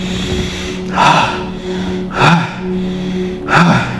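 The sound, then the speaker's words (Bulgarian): Three audible breaths, fairly loud, come at roughly even intervals over a steady low hum, like someone breathing deeply and slowly during a guided prayer meditation. No one speaks. “Дишай. Дълбоко.”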